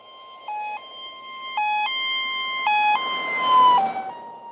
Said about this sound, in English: And it's kind of like, you know, when you hear like an ambulance siren and you hear it real loud at first when it's next to you, but then when it goes away, it gets real right. soft.